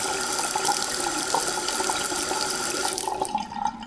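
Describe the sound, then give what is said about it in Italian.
Cold water runs steadily from a tap into a sink with a broad hiss and irregular splashes as a man splashes his face, easing off slightly near the end. “Alfio si asciugò le mani dopo aver annaffiato il viso con getti di acqua fredda”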